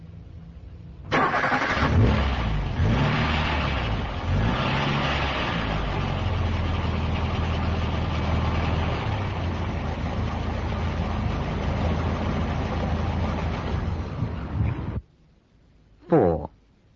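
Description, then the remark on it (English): A car engine, in neutral, is started by turning the key while pressing the accelerator; it catches abruptly, revs with a rising and falling whine for a few seconds, then settles into a loud, steady idle that runs until it suddenly stops, followed by a brief tonal sound. “And then turn the key, and first of all, a red light should come on, that's right.”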